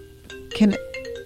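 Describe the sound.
A personal phone, not the WGXC station phone, rings with a steady electronic tone during a radio call-in show, heard briefly at moderate volume while muffled voices and room noise overlap it.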